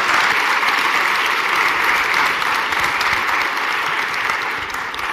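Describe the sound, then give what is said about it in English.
A large audience gives a woman another round of applause, clapping steadily for several seconds in a dense, continuous wash that fades slightly toward the end. “Let's give her another round of applause.”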